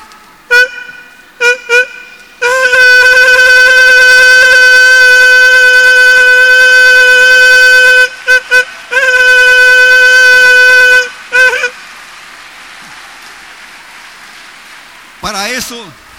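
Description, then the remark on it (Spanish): A voice mimics a classic car horn with loud, buzzy honks: two quick short toots, a long sustained blast, two more short toots and another long blast, then a brief wavering note. “Imitación de la pita del coche, ciertos clásicos de coche.”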